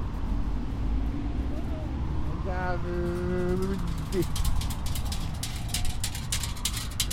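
A steady car motor rumble runs throughout, joined midway by a brief harmonic tone like a horn or engine whine, then sharp rattling bursts toward the end, fairly loud.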